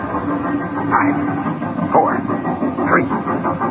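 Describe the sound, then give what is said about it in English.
A commuter special train rolls along toward a bridge, snaking along and getting closer, with a steady low rumble, while short wavering squeals recur roughly once a second over the noise. Faint, muffled voices may be mixed in. “Hey, here comes a commuter special. That's our target. Look at it snake along. It's getting closer.”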